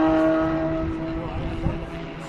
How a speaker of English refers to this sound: So the neighbors won't appreciate it very much, but I've left the generator running, and it's a bit noisy.